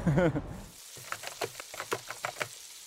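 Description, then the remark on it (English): Food fries in boiling oil in a pan with a steady hiss and a rapid run of sharp crackles and pops, after a brief voiced sound at the start. “Frying food scares me because it's boiling oil.”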